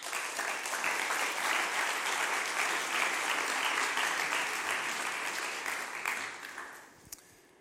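A large audience applauds steadily for several seconds, a dense wash of clapping that stays loud, then thins and fades out near the end. No one speaks.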